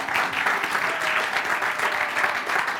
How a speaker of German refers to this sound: Danke an die Band, können wir denen auch mal einen dicken Applaus geben, genau.